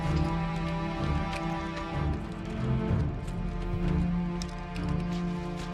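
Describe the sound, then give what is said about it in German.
Heavy, thundering footsteps of a marching army of dwarven ground troops tramp on in a dense, continuous rhythm, loud, layered over a steady low drone with no voices. “Die donnernden Schritte der Zwerge ziehen langsam in Richtung eines verwirrten elfischen Städtchens, das aussieht wie aufgelöst.”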